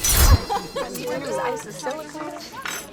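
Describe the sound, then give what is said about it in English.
A quick, bright clink of glasses raised in a toast with mocktails at the very start, fairly loud, followed by several people chattering and talking over each other. “Cheers, guys. Of course, mocktails for you guys.”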